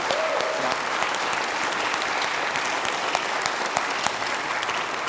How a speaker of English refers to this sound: You had some ready clappers on that one. It was good, rightly so.